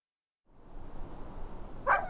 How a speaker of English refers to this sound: The dogs greeted me at the gate, tails wagging like crazy, yodeling the way they do when they're ecstatic to see me. They were hungry, I could tell.